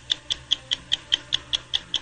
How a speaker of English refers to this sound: Can I hear that clock again? Sure. But then stop it partway.